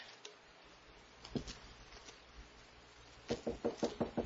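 A few faint taps, then a quick run of about six firm, fairly loud knocks on a door near the end, with no talking.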